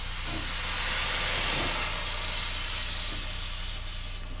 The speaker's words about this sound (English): We open the throttle, as I'm going to do right now, and you'll hear steam escape from the engine.